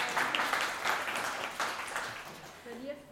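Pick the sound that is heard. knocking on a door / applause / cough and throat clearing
applause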